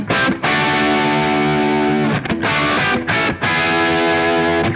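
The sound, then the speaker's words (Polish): A heavily distorted electric guitar plays a well-known riff through an amp with the high treble channel turned up and the normal channel at 3 of 10, its tone harsh and fizzy with a loud hissing edge in the highs, dense and sustained with brief breaks between phrases. “Słyszycie tą siarę, takie już nieprzyjemne.”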